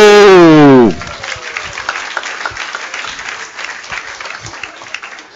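An audience breaks into steady, sustained applause as the first candidate is brought onto the stage, a dense crackle of many hands clapping that follows a brief, loud falling tone at the start and continues evenly to the end.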